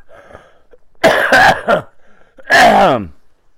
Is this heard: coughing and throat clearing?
yes